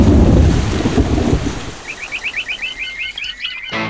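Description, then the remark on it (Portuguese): A loud rumble of thunder over steady rain fades after a couple of seconds, leaving a quieter patter and a rapid, rhythmic high-pitched chirping that repeats until the end. “As chuvas estão indo embora, mas o mosquito não.”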